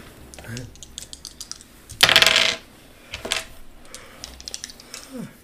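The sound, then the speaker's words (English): Dice clatter and roll across a hard tabletop in a series of sharp clicks, with a loud rattling tumble midway and a few scattered taps afterward, landing on double ones. “Jared, see if you get a 2 and a 4. Double ones! Snake eyes! I'm not using my dice tonight.”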